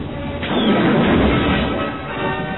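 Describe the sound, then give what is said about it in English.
Sci-fi laser cannon fire cores through an interceptor starfighter's starboard solar panel and cockpit, bursting into a loud, roaring crash as it spins into a tower, a dense rumbling impact that starts abruptly and sustains heavy for a couple of seconds, with no voices. “His lasers cored through the interceptor's starboard solar panel and pierced the cockpit. The squint spun until it crashed into a tower.”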